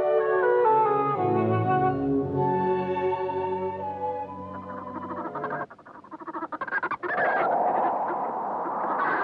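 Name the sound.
turkeys gobbling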